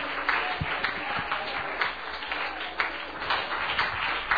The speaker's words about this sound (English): And do you appreciate the man of God tonight? Amen. Amen. Why don't you clap your hands to the Lord for bringing the man of God, Brother Pugh.